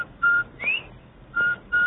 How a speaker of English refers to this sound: Everybody loves the cheery whistle of a Bob White.